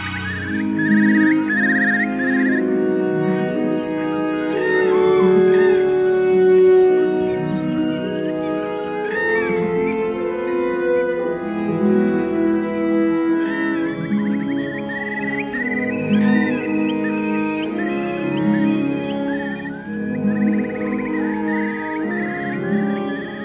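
Sustained orchestral chords swell and shift steadily, while quick, high bird chirps and trills flicker over the top throughout. Nobody speaks.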